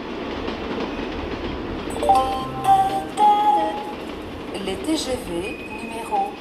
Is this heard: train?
yes